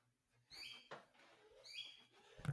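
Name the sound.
bird chirping outside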